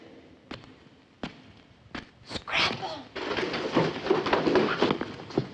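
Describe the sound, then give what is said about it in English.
Footsteps approach the comps room: a few sharp, evenly spaced steps that grow louder, then give way to a denser, louder wash of clattering noise. “The girls in the comps room hear some footsteps. Someone's coming.”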